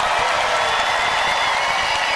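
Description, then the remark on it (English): A crowd cheers and applauds in a steady, dense wash of clapping and shouts, loud and unbroken for the whole couple of seconds, with no single voice standing out. “Come on, people, let's make some noise.”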